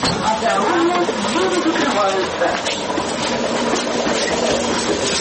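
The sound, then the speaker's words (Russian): An electric commuter train on the 100-kilometre route from Perm to Kungur in Perm Krai, Russia, rolls along with a steady, loud rumble and rattling throughout, while indistinct voices murmur over the noise. “Всего лишь нужно сесть в электричку.”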